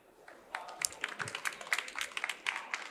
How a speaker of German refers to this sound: Ein großer Applaus